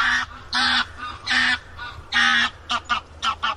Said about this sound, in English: The distance between our ears makes the sound arrive at slightly different times. This helps us tell if the sound is coming from the right or left, like that noisy goose flying by overhead.